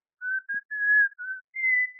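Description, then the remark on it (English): A man standing about 5 feet back from his telephone whistles a short run of five clear, steady notes in quick succession, the last ones pitched a little higher, with no talking over it. “Now, whistle.”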